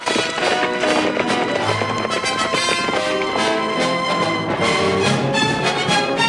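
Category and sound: animal, horses galloping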